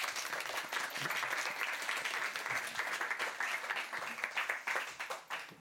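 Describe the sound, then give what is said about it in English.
A crowd at an LRB book event applauds steadily to welcome the guests, many hands clapping in a dense, continuous wash of sound that stays fairly even in loudness throughout, with no voices standing out. “Thank you for listening to me and please give our guests a very warm welcome.”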